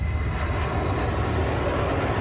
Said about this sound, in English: Apparently, SAC planes had been deployed from Biggs Air Force Base, and as they flew low over my house, these big, gray, abnormally huge planes seemed to my 7-year-old self to blot out the whole sky.